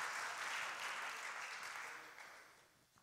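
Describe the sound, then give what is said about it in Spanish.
A crowd claps together in a steady, dense wash of applause that holds for a few seconds, then gradually thins and fades out, with no one speaking over it. “Mueva una mano, aplauda, diga algo, diga amén, diga gloria a Dios.”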